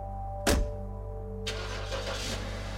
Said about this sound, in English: Phil climbed back into his car and took off.